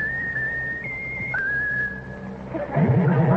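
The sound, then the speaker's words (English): A pet bird, told to whistle its favorite tune, whistles a clear, sustained high note that steps up and down in pitch, with a rougher, lower sound creeping in near the end. “Now, Raffles, that's a very bright thing. Whistle your favorite tune.”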